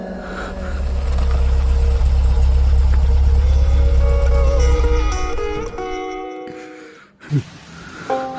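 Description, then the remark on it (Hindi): A new car, given as a Raksha Bandhan gift, has its engine idling loudly with a steady low rumble, then cut off, leaving quieter background sounds and a brief thump near the end. “वाह भैया, नई गाड़ी बहुत सुंदर बा, और हमार फेवरेट कलर भी बा।”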